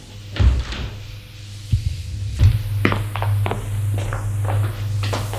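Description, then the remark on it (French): A house door is opened by a servant with a low thud, followed by irregular footsteps and soft knocks on the salon door over a steady low hum, with no talking. “La porte s'ouvre, c'est le domestique.”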